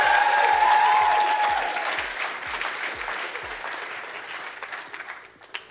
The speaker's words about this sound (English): My mum and dad are here. They're sitting over there. Round of applause for my mum and dad.